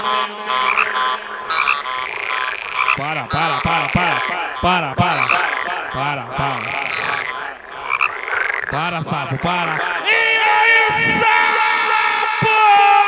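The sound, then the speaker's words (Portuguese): Loud, rapid frog croaks repeat in a dense, rhythmic chorus of warbling calls, giving way near the end to a bright, sustained electronic-sounding tone. “Para, sapo, para.”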